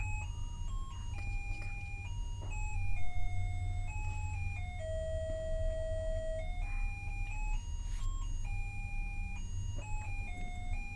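A chiming clock plays a slow melody of clear, sustained bell-like notes stepping up and down in pitch, moderately loud, over a steady low rumble with no voices.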